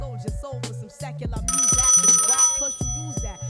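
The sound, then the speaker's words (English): A telephone rings with a bright, metallic trill lasting about a second, set against a busy, rhythmic background of repeating low tones and clipped sounds. “Yo, somebody get Michael Severn on the phone right now.”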